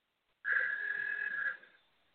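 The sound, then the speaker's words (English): A phone's text message alert sounds once, a steady electronic tone lasting just over a second, fairly loud, with no talking around it. “Well, who keeps texting in the”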